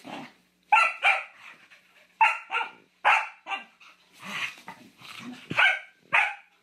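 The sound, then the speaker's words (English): Two dogs playing at a home in Marietta bark back and forth in quick, playful bursts, about nine sharp yaps and woofs, some overlapping, with brief low growly sounds between them and no talking. “I have two very spoiled dogs, Simba and Samus. The two of them are inseparable. Here they are playing at my home”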